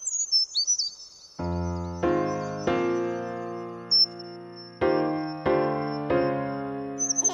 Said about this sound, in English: I'm assuming that's the Latin name of some common American bird. The brown creeper.